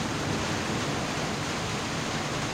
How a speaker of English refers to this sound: I was just crawling through this passage here and the sound of the water.